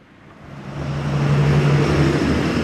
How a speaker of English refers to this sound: Like most of Beijing, the streets surrounding the grounds of the city's ancient Temple of Heaven are choked with raging traffic. It's hard to imagine that nature still has any place in this throbbing metropolis.